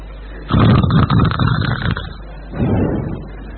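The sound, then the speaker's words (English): Two rough, rumbling snores with no talking: a long, loud grating snort followed by a short pause and a second, softer and shorter snore. “But we have actually seen such so-called yogis sleeping and snoring while meditating.”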